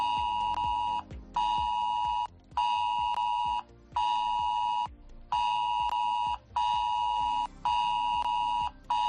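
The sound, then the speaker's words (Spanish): A loud, harsh emergency alert tone from a mobile phone blares in repeated bursts, about seven pulses each lasting around a second with short gaps, steady and piercing, with no voices. It is a test of emergency alerts by 112 of the Government of Cantabria, sent to phones near the dams of Alsa, Mediajo and Mataoz between 10 and 12 in the morning. “No te asustes porque se trata de una prueba que va a realizar el 112 del Gobierno de Cantabria de esos avisos de alerta en caso de emergencia.”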